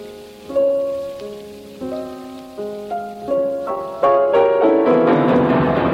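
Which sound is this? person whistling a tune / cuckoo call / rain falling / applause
rain falling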